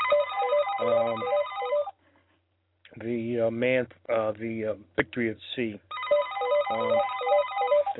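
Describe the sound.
A telephone rings in two loud bursts of rapid electronic trilling, separated by a pause where a man speaks briefly.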